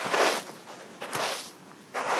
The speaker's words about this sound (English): The sound of footsteps on sand, not in the desert or on a beach, but in the middle of Italy's longest and most important river, the Po.